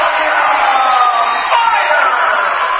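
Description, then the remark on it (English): A crowd roars and cheers steadily at a basketball game between the Bearcats and Northwest, a loud, dense wash of voices with rising shouts and whoops running throughout. “And a good crowd on hand. Starting to get into this one a little bit.”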